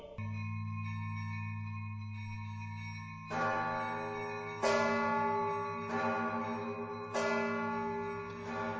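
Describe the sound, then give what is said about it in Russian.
Large church bells toll over a low sustained drone, with four heavy, evenly spaced strikes whose bright, rich overtones ring on and blend together. No voices. “Звенят церквей колокола, как звон разбитого стекла, как будто чей-то тяжкий стон того, кто без вины казнен.”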